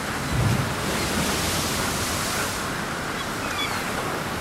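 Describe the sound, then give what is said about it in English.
A steady, full roar of ocean breakers crashing in wild, wet, windy weather in Wellington, with a slightly louder surge near the start before settling into a continuous wash of surf. No voices are heard. “The breakers crash. The breakers crash. In the wild, wet Wellington wind.”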